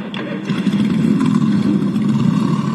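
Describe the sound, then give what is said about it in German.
Many motorcycle engines revving together at the close of an event, in praise of God: a loud, dense, continuous rumble with overlapping throttle bursts and clatter, sustained without pause throughout. “ich darf euch bitten, zum Abschluss der Veranstaltung, zum Lobe Gottes, noch einmal eure Motorrad sprechen zu lassen.”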